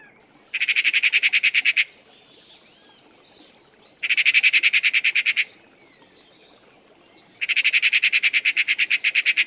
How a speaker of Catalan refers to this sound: El primer ocell que heu escoltat és la garsa.